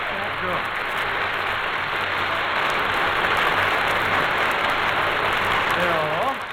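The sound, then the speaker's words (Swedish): Sustained, dense applause from a large audience on Hyland's broadcast after a singer's performance, a steady loud wash of clapping that seems never to end, with a few voices faintly audible at the start and end. “Applåderna tycks aldrig vilja ta slut.”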